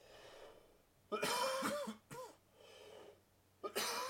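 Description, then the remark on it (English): A person breaks into a harsh coughing fit, several loud, raspy coughs in quick bursts with short gasping pauses between them, and no talking. “You're making me cough, sir.”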